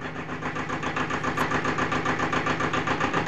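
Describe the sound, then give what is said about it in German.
An old tractor engine chugs steadily, its rapid, even putter loud and unbroken throughout, with a slight rise in volume after the start, as the tractor comes back from the field. “vernahm ich das Tuckern unseres alten Traktors.”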